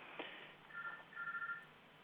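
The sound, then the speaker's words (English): A telephone rings in the background with a soft electronic trill, two short bursts of rapidly warbling tones heard over a faint, narrow-band hiss. No one speaks. “That sounds like something ringing in the background.”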